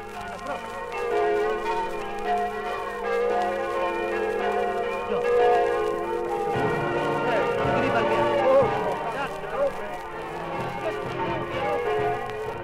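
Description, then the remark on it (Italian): Church bells of a small village on the right bank of the Torre river ring out together with the village brass band, welcoming returnees from France, Switzerland, Belgium and Luxembourg, a dense, steady wash of ringing and tonal music that continues throughout, with faint crowd murmur underneath. “Le campane e la banda di un paesino sulla sponda destra del torre salutano i reduci dalla Francia, dalla Svizzera, dal Belgio, dal Lussemburgo.”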